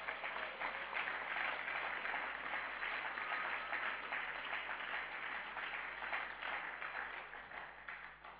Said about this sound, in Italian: Alleluia. Facciamolo un altro applauso a Gesù.